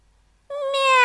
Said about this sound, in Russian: «Мяу!» Пронзительно закричал Фати и снова прислушался.